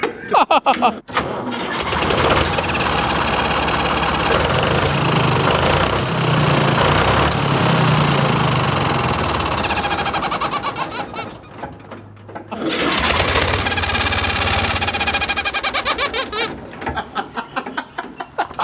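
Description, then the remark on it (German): A tractor engine idles loudly at its lowest engine speed with a steady, rattling rumble, then is switched off and cuts out abruptly, leaving a brief quiet before another loud burst of noise fills the rest. “Eigentlich kann man sagen, man hört nur das Ausmachen so richtig, aber dann lacht's.”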